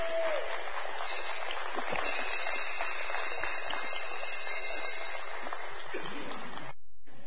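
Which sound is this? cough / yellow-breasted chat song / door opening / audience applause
audience applause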